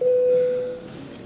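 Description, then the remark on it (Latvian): A single steady electronic tone sounds clearly for under a second, a plain mid-pitched beep: the voting bell in the Latvian parliament (Saeima), called before a vote on a bill in its first reading. It then cuts off, leaving faint room hum. “Paldies, lūdzu zvanu.”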